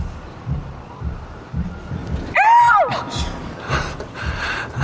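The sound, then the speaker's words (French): A human voice imitates a bird's song with one brief, loud, wavering high-pitched cry that bends up and down, rising sharply out of a steady rumbling, breathy background noise. “C'est quoi le chant de cet oiseau ? Je vais te le faire.”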